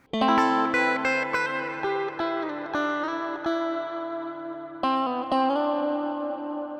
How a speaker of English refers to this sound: Another worthwhile experiment is to pan the dry sound to one side and the reverb to the other to create a more obvious effect.